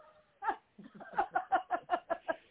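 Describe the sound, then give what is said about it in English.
A dog lets out a quick run of about eight short, high-pitched yips and whimpers, growing steadier and more rhythmic, fairly loud with no other sounds around. “Ghost dog, wait.”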